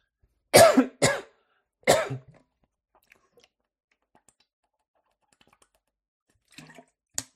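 Three harsh coughs burst out in quick succession after drinking water, then give way to near-silence broken only by faint clicks and small handling sounds, with no one talking.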